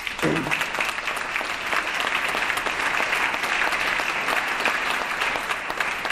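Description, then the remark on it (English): Sustained applause from a large audience, with Republicans clapping during a speech on California, a dense, steady patter of many hands clapping at even loudness for several seconds with no voices rising above it. “That gives the Republicans something to clap at.”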